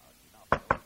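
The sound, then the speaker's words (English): Two sharp, solid knocks on an office door, fairly loud, in quick succession after a near-silent moment, with no voices. “There was a rap at the door.”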